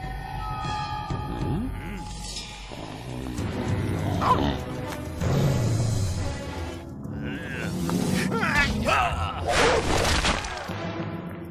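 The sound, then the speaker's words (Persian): Several dogs bark and growl in overlapping bursts, loud and close, with voices and other commotion mixed in throughout. “چکی، قدرت جاودانگی تو یکی از این سگاست. برو پیداش کن.”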